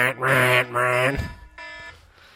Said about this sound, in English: And done. But you gotta let the timer go off.